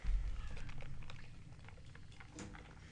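Someone quietly sips a pineapple Liquid IV energy powder drink mixed with water from a Starbucks cup, with faint wet slurping and small mouth noises over a soft background hush. No one speaks.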